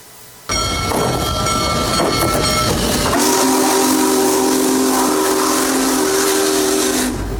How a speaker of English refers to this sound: Many people enjoyed the Union Pacific Big Boy Tour featuring America's most powerful steam locomotive as it traveled through Hancock County and other counties on Saturday as part of its coast-to-coast tour to celebrate America 250.